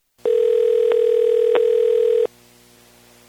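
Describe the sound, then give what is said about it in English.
A single steady electronic ringback tone of a call to a cell phone at about 11 o'clock at night sounds for about two seconds, loud and clear, then cuts off into quiet line hiss as the call waits to connect. “I called his cell phone, which I found listed on the company's homepage, at about 11 o'clock at night.”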